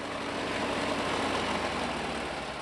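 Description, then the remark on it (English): A small gasoline lawnmower engine runs steadily, a continuous buzzing drone with a low rumbling hum underneath and no pauses or changes in pitch. No voices are heard. “Lawnmowers have been silent for the last few months across most of the country, but as days grow longer, so does the grass.”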